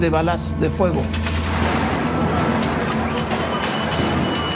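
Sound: gunshots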